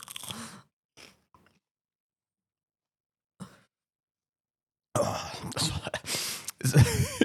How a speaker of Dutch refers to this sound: Ik neem nog een tweede hap van deze.